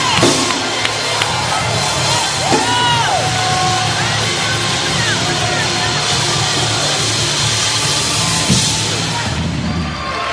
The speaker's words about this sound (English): That person ain't shouting with you. Go find a shouting partner.